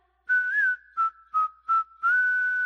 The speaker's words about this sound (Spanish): Silbando al trabajar.